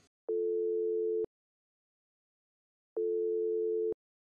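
A telephone ringing tone as a lyricist is called by phone: two steady, mid-pitched beeps, each lasting about a second, separated by a long silent pause, with no voices.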